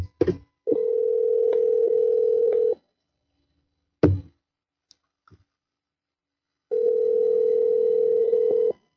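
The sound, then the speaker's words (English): A phone line clicks as a call is placed back, then a steady ringback tone sounds for about two seconds, falls silent after another click, and rings again in a second long burst. Clear, with no talking. “All right, calling right back.”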